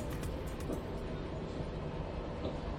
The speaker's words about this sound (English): I was mesmerized by the rhythmic thud of the train's metal wheels against the equidistant joist of the steel tracks as I looked out onto the vibrant fall foliage, the bright reds and orange hues accentuated in the late afternoon sun.